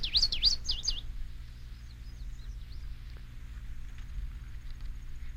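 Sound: bird song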